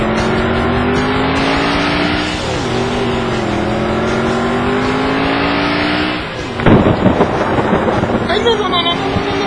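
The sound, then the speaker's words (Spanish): A car engine drones and revs steadily, then a loud, deep rumble of thunder breaks in near the end and rolls on over the fading engine noise. “Es que no vaya a llover, que no vaya a llover.”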